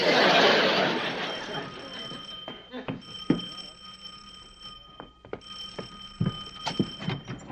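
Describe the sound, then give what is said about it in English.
A burst of rushing noise gives way to a faint, steady high-pitched ring of a phone hidden in a shoe, carrying on beneath scattered clicks and soft knocks. “I know this is going to sound silly, but is it possible that your shoe is ringing?”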